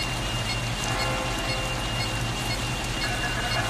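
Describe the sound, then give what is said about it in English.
Steady rain falling and pattering on a surface in a video game town, a dense continuous hiss with a low rumble underneath, fairly loud throughout without any voices. “That, and it's raining.”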